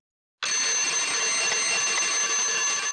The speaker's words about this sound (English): The alarm clock is ringing. It's 6 a.m.